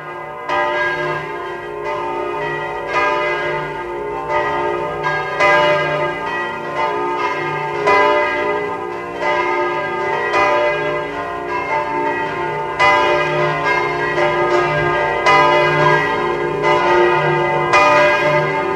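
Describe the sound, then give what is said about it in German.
The bells of the cathedral church of St. Martin in Eisenstadt ring at 12 noon in a continuous, overlapping full peal, their deep resonant strikes layering into a steady wash of tolling with long ringing overtones, loud, with no voices. “Sie hören die Glocken der Domkirche zu St. Martin in Eisenstadt.”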